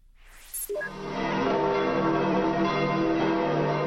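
church bells ringing

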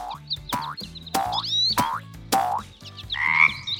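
frog croaking

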